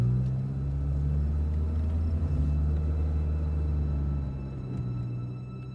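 A woman's car drives along, just after its occupants got in, with a steady, low engine drone and road rumble, as if heard from inside the vehicle. The hum holds even and fairly loud throughout, with no talking.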